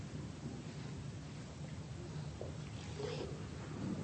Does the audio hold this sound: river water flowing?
yes